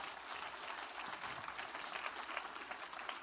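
A crowd applauds steadily, a dense wash of many hands clapping at a constant, fairly strong level throughout with no speech on top.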